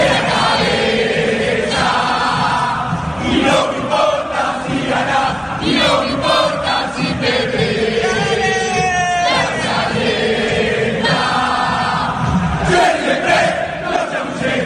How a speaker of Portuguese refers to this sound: Mas o torcedor do Boca sabe fazer festa. Ouçam só a torcida do Boca.